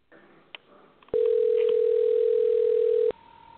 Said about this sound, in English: Well, my phone's ringing. It's calling something. I don't know what, and I didn't touch it.